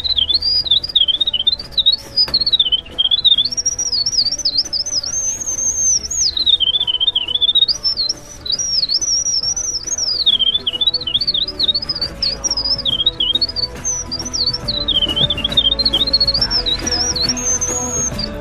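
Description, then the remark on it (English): A long, rapid, tumbling birdsong of high bubbling trills and warbles runs unbroken for nearly twenty seconds, loud, typical of a winter wren in full song. “And let's hear that winter wren one more time, Patrick.”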